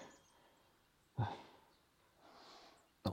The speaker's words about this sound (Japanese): お前、息切れがすごいけど大丈夫か？ちょっと休め。